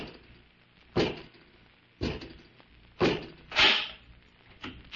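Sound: door opening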